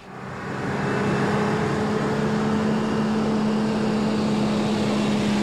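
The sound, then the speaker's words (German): A truck's engine starts up and builds within the first second, then holds a steady, loud droning rumble with a low hum as the truck pulls away from a barrier and stops beside a loading ramp marked goods receiving. “Der Lastwagen fährt an der Schranke los und hält gerade neben der Kitz an der Rampe mit der Aufschrift Warenannahme.”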